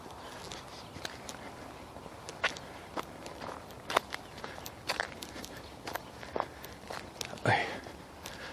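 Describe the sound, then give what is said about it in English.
Footsteps crunch and scrape across ice at an uneven walking pace, with a louder grinding step near the end and no talking. “Ice underfoot, always a challenge.”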